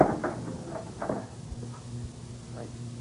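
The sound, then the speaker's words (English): A theater dressing room door is opened: a few clicks and knocks from the latch and handle, then a soft creak and thud, with a low murmur in the background. “Quick, get that door open.”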